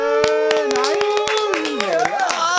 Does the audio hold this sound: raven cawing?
no